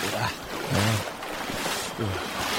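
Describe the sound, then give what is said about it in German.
Steady sloshing and splashing of dirty water surrounds someone wading chest-deep off a beach toward a boat, with a few brief voiced sounds breaking through the continuous watery rush. “Boah, mir ist jetzt das Wasser bis zur Brust.”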